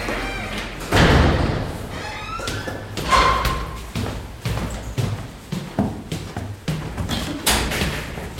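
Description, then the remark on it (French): A door is handled, with a heavy thud near the start followed by a series of knocks, creaks and bumps, some scraping and squeaking, and a faint voice in the background. “La porte est ouverte.”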